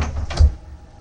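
A man gets up and slams a door shut behind him once, with a heavy, booming thud and a short rattle, loud, then it fades into a quiet room tone.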